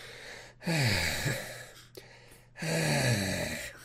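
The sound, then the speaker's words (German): Two heavy, forceful huffing breaths from someone who is angry, loud, each a long noisy exhale with a low voiced grunt underneath, separated by a brief pause and sounding agitated. “Immer dieses Schnaufen, als ob das irgendwas noch besser machen würde.”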